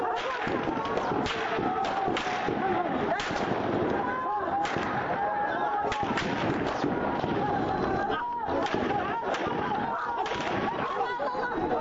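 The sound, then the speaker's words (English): Repeated sharp bursts of gunfire crack out at irregular intervals over a loud, constant din of a crowd shouting and clamoring throughout, as forces loyal to Saleh open fire and fire tear gas on a crowd of protesters. “A number of people were killed and dozens of others injured when forces loyal to Saleh opened fire and tear gas on a crowd of protesters.”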